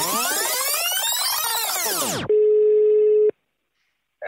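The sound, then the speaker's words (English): A telephone ringing tone sounds on the line: a loud sweeping electronic whine gives way to one steady, buzzy burst lasting about a second, then a brief silence before the next burst begins. “I think it's ringing.”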